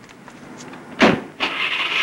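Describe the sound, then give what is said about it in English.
A car door clunks shut with a single solid thump as a man gets into his car, followed moments later by a steady, bright whooshing rumble that continues to the end. No one speaks. “Liggett races to his car and gets in. Then he gets out, fumbles through his pockets for his keys, and gets back in.”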